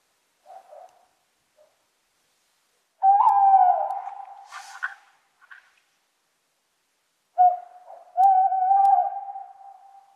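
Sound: male tawny owl hooting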